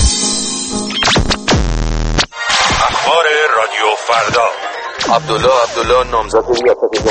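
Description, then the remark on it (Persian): Harsh radio jamming static on a Radio Farda broadcast, with loud buzzing drones and warbling, crackling interference that swamps garbled, broken-up voices, sustained throughout. “پارازیت گوشاتون رو آزار میده؟”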